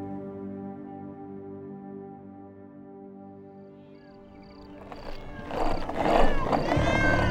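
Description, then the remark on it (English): About a dozen cats meow and yowl in the middle of the night, starting with a low, drawn-out wail that swells into a loud, overlapping chorus of caterwauling near the end. “Just following a dozen cats and one cranky opossum all the way across town, middle of the night.”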